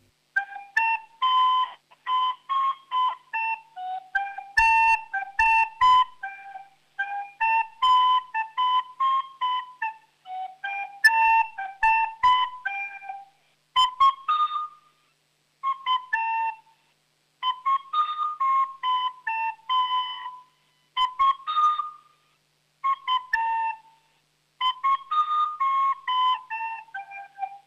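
A child plays a lively round dance (Rundtanz) on a recorder, bright breathy notes in quick phrases with short pauses between them, steady and fairly loud with no talking.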